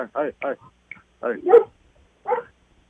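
A dog barks outdoors, about six short, sharp barks in uneven clusters separated by brief pauses, fairly loud and with no other sounds behind them.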